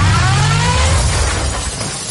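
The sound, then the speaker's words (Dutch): A new car's engine revs loudly as it reverses, then a crash and glass shattering follow, the noisy impact lingering for the rest of the moment with no voices. “Oh, ja, hij stond nog eens achteruit. Dat is niet zo slim.”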